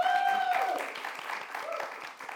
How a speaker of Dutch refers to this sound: Mag ik een groot applaus voor deze dame?